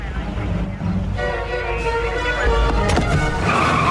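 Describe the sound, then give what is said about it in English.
The Hulk's car revs hard and pulls away while surrounded, its tires letting out a sustained, rising squeal over the steady rumble of the engine, loud. “And Hulk gasses it.”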